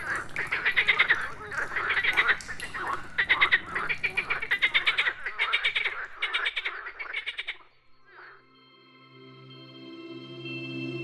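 Frogs croak in a loud, rapid chorus of pulsing, rattling calls that repeat in bursts for several seconds, then stop, leaving a faint steady hum behind.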